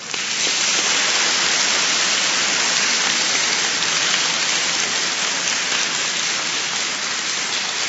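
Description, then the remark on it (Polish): A large crowd at a gathering applauds steadily for about eight seconds to thank the priest who gave the homily, a dense, even crackle of many hands clapping at constant loudness, with no voices rising above it. “Podziękujmy także oklaskami księdzu Piotrowi, który wygłosił homilię podczas naszego dzisiejszego spotkania.”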